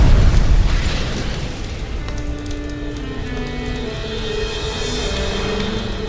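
A fire of gathered wood is lit: a loud, deep whoosh bursts out as flames catch, then settles into a steady, crackling roar of burning fire with sharp pops and hissing that continues throughout.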